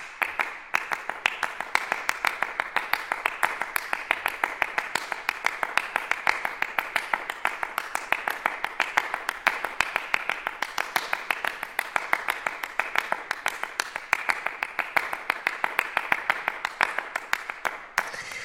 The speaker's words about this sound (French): des percussionnistes des deux orchestres de Radio France pour applaudir à leur façon tous les soignants.